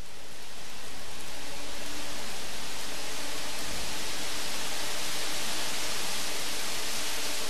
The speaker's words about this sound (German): Das, was ich hier wie das stärker werdende und dann wieder abflauende Rauschen vieler Blätter mit dem dazugehörigen Wind anhört, sind tatsächlich die Geräusche von Lüftern.